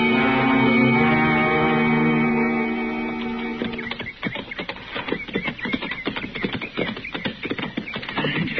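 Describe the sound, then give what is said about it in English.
Horses' hooves clip-clop at a steady, uneven walk, clear, out in hot, shadeless open country, after a few seconds of sustained tonal sound that fades out as the hoofbeats take over. “Well, we better leave our horses here, Chester.”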